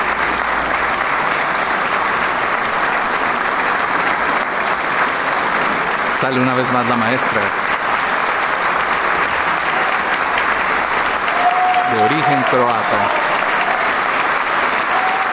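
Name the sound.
audience applauding enthusiastically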